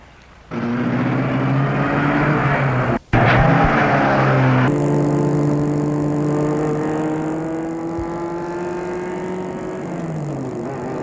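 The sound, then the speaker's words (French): A car engine, started by Frédéric, turns over and roars to life, revving hard with rising pitch as the vehicle pulls away down a street, then settles into a steady, loud drone as it drives off. No one speaks. “Frédéric met la voiture en route.”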